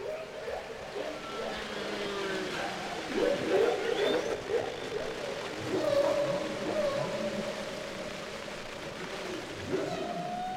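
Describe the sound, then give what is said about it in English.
Whale calls, presented as those of Henry the Hudson Whale of the Hudson River, drift through a murky underwater rumble: long, wavering moans and a few higher squeaky cries, steady and moderately loud, with no voices present. “But we'll be back next week with more Tales of the Hudson River with our friend Henry the Hudson Whale.”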